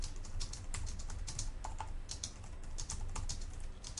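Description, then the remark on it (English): Rapid typing on a computer keyboard while entering text into an application, a steady stream of light, crisp key clicks with uneven rhythm over a low background hum, no voices. “All right, so at any rate, here we are within our application now, and I'm going to hit the page up button on my keyboard, which should allow me to start typing.”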